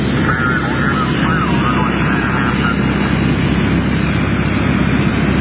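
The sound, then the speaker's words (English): A small airplane's engine drones steadily and loudly throughout as it flies back over water before turning around to land, a dense, unbroken roar with a buzzing mid-range tone and no pauses. “Now back over the water again. We'll be turning around again and landing, I guess.”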